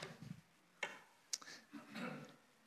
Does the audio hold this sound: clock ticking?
yes